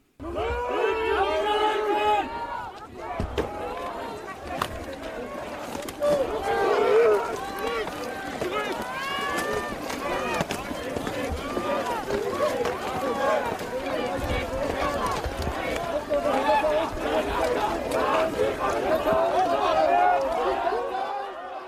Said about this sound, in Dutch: En jij kwam in een fuik terecht met 35.000 Antifa. En dat klonk als volgt.